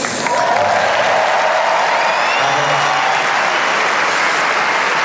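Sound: crowd applauding and cheering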